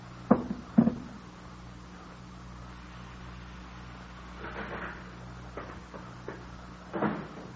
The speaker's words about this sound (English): Oh, that must be Jerry out in the vestibule. Excuse me, I better release the door.